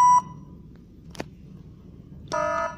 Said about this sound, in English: the person you're trying to reach is unavailable. They're having an FML moment. Please leave a message at the beep. If you dare.